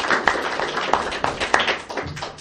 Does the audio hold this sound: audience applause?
yes